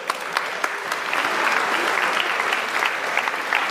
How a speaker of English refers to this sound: Come and grab your prize. Well done. Round of applause.